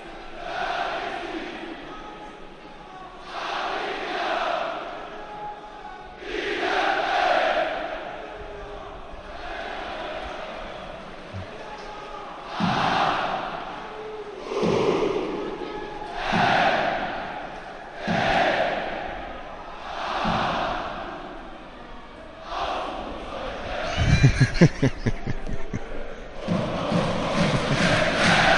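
A big stadium crowd sings a carnival chant in loud, rhythmic bursts that swell every couple of seconds, with sharp claps or stomps joining in near the end.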